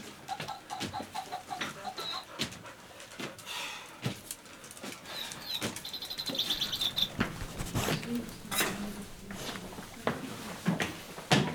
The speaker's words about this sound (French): Il répète tout, j'ai un oiseau qui chante.